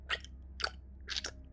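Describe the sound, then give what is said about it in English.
A man noisily chews a piece of chicken, with three distinct wet, smacking chomps spaced about half a second apart over a low, steady background hum. No one speaks. “Disheartened, one of our mates took a swig from his glass and then proceeded to eat a piece of chicken noisily.”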